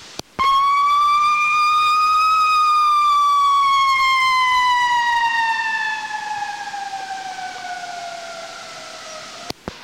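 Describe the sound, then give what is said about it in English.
A fire truck siren wails loudly, one long tone that rises, then slowly sinks in pitch over about nine seconds before cutting off abruptly. No one speaks. “On the back of the Chicago fire truck, it says, "Do not follow."”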